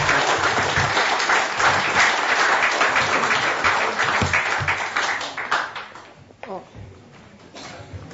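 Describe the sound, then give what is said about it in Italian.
An audience bursts into sustained applause, a dense crackle of many hands clapping at steady volume for several seconds before thinning out and fading toward the end. “Dopodiché credo che possiamo anche un applauso.”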